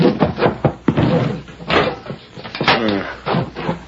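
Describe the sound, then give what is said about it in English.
A door is handled, with rattling clicks and clunks as it is unlocked and worked open, then a firm knock-like thud as it shuts, with faint movement around it. “Wait till I get this door unlocked. All right, inside, both of you.”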